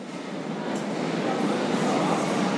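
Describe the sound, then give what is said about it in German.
Steady, dense roar of a subway train at the Gesundbrunnen U-Bahn station in Berlin, Germany, filling the space evenly for a couple of seconds, with indistinct crowd murmur blended into the din. “Die Polizeistreife ist immer noch im Berliner Untergrund unterwegs, jetzt am U-Bahnhof Gesundbrunnen.”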